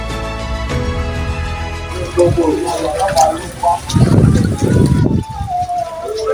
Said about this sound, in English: It is now 11 a.m. and the rain is still pouring.